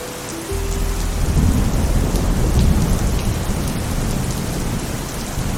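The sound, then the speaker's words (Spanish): Heavy rain pours down steadily and loudly across the street, a dense continuous hiss with a deep low rumble underneath, swelling in at the start and holding strong throughout, with no voices. “La lluvia azotaba la calle con salvajes rabalazos de furia.”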